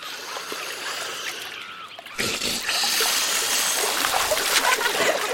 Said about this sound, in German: Achtung, ich mache eine Fontäne.